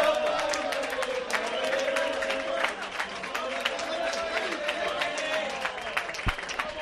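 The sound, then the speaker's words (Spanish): Steady, dense applause fills a restaurant as a crowd of diners claps continuously in an ovation for a woman entering, with excited voices and cheers mixed in throughout, loud. “entra en el restaurante a donde va a cenar, recibe una ovación de todos los presentes”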